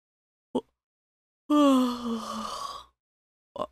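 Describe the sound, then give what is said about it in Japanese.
A single long, drawn-out yawn with a descending, breathy vocal tone lasting over a second, bracketed by two brief soft breaths or mouth noises before and after. “つーか、姉貴だってあくびしてんじゃん。”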